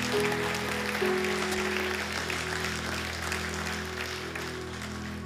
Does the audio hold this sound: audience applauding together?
yes